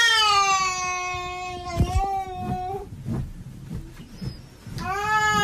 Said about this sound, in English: You may remember before that I've played you things like, say, when a cat makes this noise.